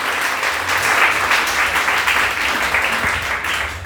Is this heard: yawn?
no